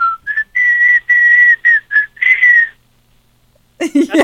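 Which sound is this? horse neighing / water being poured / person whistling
person whistling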